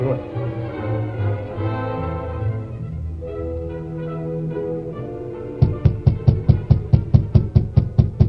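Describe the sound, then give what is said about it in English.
A rapid, steady series of about a dozen sharp knocks on the rear door of Floyd Duvall's house, loud and evenly spaced, comes in after several seconds of sustained tonal sound that carries on faintly beneath the knocking. “Floyd Duvall hesitated before answering the rap on his rear door.”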